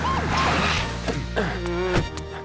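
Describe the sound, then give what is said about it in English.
A police car siren wails in rising and falling sweeps, fairly loud, as police stop a red car for a traffic violation, with a few sharp clattering hits mixed in over about two seconds. “Oh, no! It's the police!”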